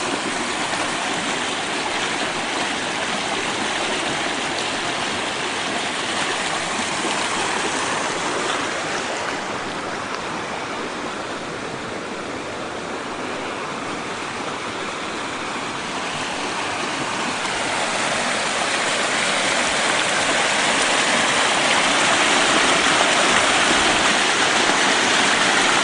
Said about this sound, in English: Creek is really roaring. And all these the creek is cutting out on the other sides and making new pathways.